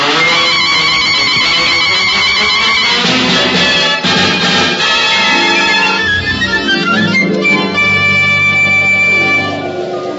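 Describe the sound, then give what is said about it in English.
A loud, dense run of musical sound effects, with bright tones and shifting pitches tumbling one after another for about ten seconds, with no talking. “Plus, a medley of various musical effects.”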